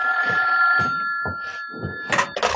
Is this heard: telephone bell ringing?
yes